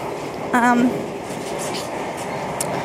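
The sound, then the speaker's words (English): Loud, steady rumble and rattle inside a moving train carriage with its windows and the door into the carriage open, a broad roar filling the whole stretch, with a brief voice-like tonal burst near the start. “they must have windows open, plus the door that goes into and out of the carriage seems to be open. It's really noisy.”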